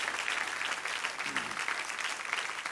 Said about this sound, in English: Okay. Four people are accepting Christ into their lives. That's awesome. That's fantastic. Come on, give them a big round of applause.